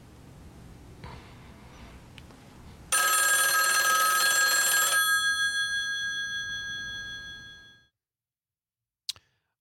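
telephone ringing

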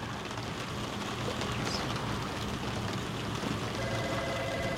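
rain falling

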